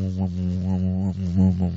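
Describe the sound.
A voice imitates a drunken bee with a continuous low, droning buzz that wavers and swoops unsteadily in pitch for under two seconds, fairly loud and alone.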